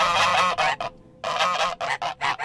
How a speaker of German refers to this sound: empfangen mich zwei aufgeregt schnatternde, flügelschlagende Gänse.